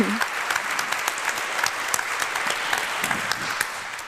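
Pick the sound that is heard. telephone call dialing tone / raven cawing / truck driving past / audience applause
audience applause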